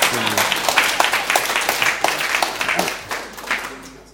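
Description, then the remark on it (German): An audience applauds steadily for a couple's 17th wedding anniversary, a dense patter of many hands clapping at moderate loudness, with a few faint voices mixed in before it starts to thin out near the end. “Dürft ihr klatschen, natürlich.”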